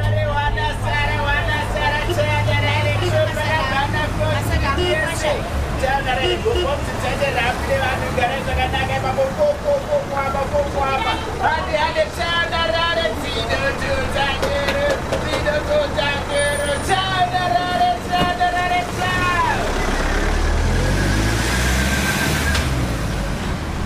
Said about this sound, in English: Chema is set in Zimbabwe the week of 20 January 2013. Two women disembark from a kombi on their way to a funeral.